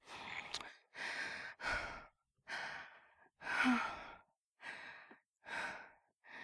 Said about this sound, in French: J'ouvre les yeux. Je suis encore haletante, trempée de sueur.